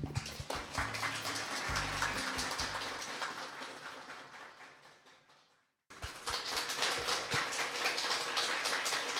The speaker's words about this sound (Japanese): サイレントナイト清子の夜を会場の皆さんもご一緒にということですので、よろしくお願いしたいと思います。それではどうぞ拍手をお送りください。